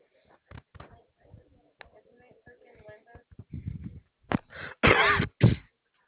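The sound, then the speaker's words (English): A loud, sudden sneeze bursts out near the end, right after some quiet, muffled talking and shuffling in the background. “Bless you.”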